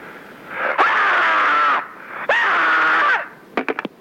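Two long, loud human screams, each held for about a second, followed by a quick burst of short, sharp cries. The screams are piercing, with no talking.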